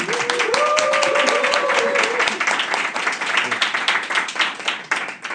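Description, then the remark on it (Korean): An audience greeting the hosts at the start of a public recording at the Mic Impact venue breaks into steady, dense applause lasting about five seconds, with a brief voice or cheer rising over the first couple of seconds before the clapping thins slightly at the end. “예, 네, 그럼 인사 박수 치셔도 될까요?”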